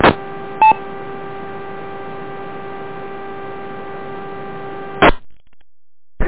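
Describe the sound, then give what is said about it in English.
A steady electrical hum fills a narrow amateur radio repeater channel during a net check-in, broken early by a brief two-tone repeater courtesy chime as a station's tail drops; a few seconds later the carrier drops with a short burst of noise, leaving near silence. “And again, please wait till the repeater, your tail drops on the repeater up there, and by that chime it should hopefully clear my interference from Rochester.”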